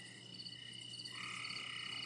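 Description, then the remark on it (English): A male tree frog gives a bird-like, steady trilling call that strengthens halfway through, set against a soft, constant hum of nighttime forest ambience with no voices. “That bird-like call is a male tree frog singing to attract a prospective mate.”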